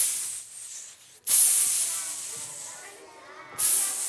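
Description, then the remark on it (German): A person imitates a snake with breathy hissing: a softer hiss, a brief pause, then a long loud hiss that fades before another sharp one begins. “Ich würde auch sagen, eine Schlange.”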